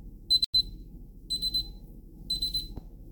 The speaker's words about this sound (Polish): I za chwilę nam się krok pierwszy wykona. Za kilkanaście sekund usłyszymy taki dźwięk alarmu.